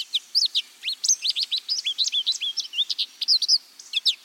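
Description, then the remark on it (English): A lively, continuous stream of high, twittering calls from a recently molted American goldfinch in spring, with rapid chirps and warbles tumbling over one another, with no voices present. “This American goldfinch has recently molted.”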